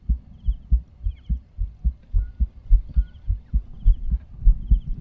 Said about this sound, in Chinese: 心跳是左边哦。